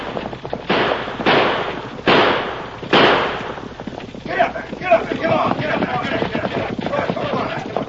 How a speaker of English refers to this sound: Attracted by the thundering hoofs and the sound of gunfire, each man in turn left his post and joined the chase.